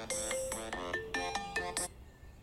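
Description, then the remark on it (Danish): A phone ringtone plays a bright, repeating electronic melody in short rhythmic bursts, fairly loud, at 7 in the morning, then stops abruptly with no voices. “Nå, nu ringer”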